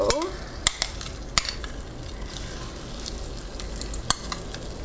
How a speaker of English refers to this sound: Okay, so my butter is melted. I'm just going to slide my little crab cakes into the skillet. And as soon as they're in there, I'm going to turn the heat back up to medium.